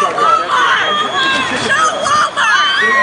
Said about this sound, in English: Meanwhile, while protesters were on site, some people going by yelled support for the protests in opposition to Walmart.